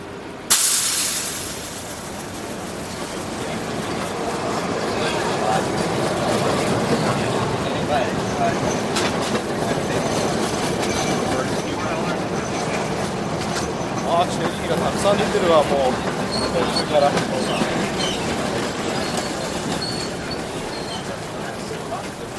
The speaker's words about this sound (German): An der Ecke Market und Powell Street steigen wir aus dem Schacht der Nahverkehrsbahn die Treppe hinauf. Der erste Anblick, ein Gewirr von Autos, Bussen und Straßenbahnen.